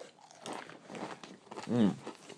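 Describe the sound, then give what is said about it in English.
Mushroom, green vegetable and Italian cheese crisps being crunched, a run of irregular crisp bites and chewing, with a brief murmured voice near the end. “Do you think the Boo Camus probably had enough of us crunching them now?”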